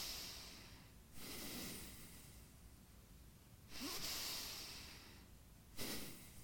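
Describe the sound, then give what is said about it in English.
A voice imitates the slow sleeping breaths of a person who has drifted off to sleep: three soft snoring inhales with airy hiss between them, quiet, with no talking. “His breathing, his sleeping breathing.”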